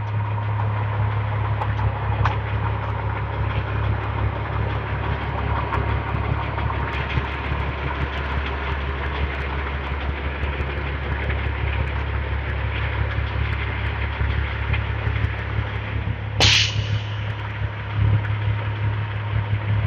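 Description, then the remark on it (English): Heavy diesel engines of dump trucks idle steadily at a road work site with a deep, constant rumble, faint mechanical clatter and a brief high-pitched squeal partway through. “And what is with these dump trucks? Road work ahead.”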